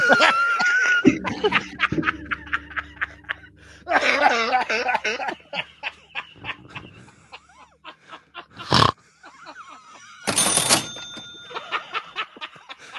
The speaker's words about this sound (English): I would call your doctor as soon as possible. That cough sounds bad, bro. Tell me what he says. That cough does not sound good. That was a scary cough.